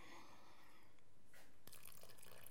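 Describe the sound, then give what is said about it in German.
Water pours into a bowl of focaccia dough being made by hand with a soft, splashy trickle, faint, followed by a sharper wet splatter near the end; no one speaks. “So, jetzt bei Grundrezept steht auch geschrieben, muss Wasser geben.”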